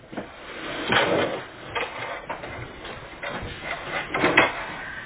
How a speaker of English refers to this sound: We need to turn on that printer to make sure it's on.